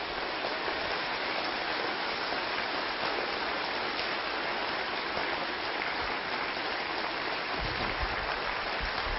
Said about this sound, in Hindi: और कारण नंबर तीन, हम इतनी जोर से तालियां बजाएंगे कि हमारे तालियों के vibration it should touch the almighty God, thanking God for this great life God has given to us. अब तालियां बजाइए।